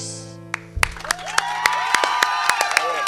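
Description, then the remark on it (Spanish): A small group applauds after a song ends at a folk music afternoon, Folclórica, a fading sustained tone giving way to scattered, uneven hand claps with a few cheers and voices mixed in. “Somos pocos, pero buenos los aplaudidores.”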